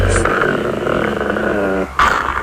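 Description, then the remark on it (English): A dog growls low and steadily for nearly two seconds, fairly loud, then breaks into a brief higher whimpering whine after a short pause. “Think of the puppies.”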